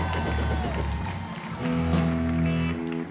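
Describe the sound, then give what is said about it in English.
A crowd applauds and cheers for about three seconds, a steady wash of clapping under loud sustained whoops and shouts that swell slightly toward the end. It is the Music Business Radio audience practicing a burst of applause and cheering at the host's request. “Let's hear some applause and cheering.”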